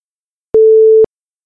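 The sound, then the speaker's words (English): A single electronic beep signalling test takers to stop reading sentences aloud in a reading test, one steady mid-pitched tone lasting about half a second, loud and clean with abrupt clicks at its start and end. Silence surrounds it. “You should stop speaking when you hear the beep.”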